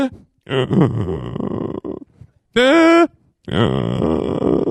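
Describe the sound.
A voice imitates a person's snoring with a few rough, drawn-out grunting breaths, the snore petering out to a brief high-pitched whine, loud with no actual words.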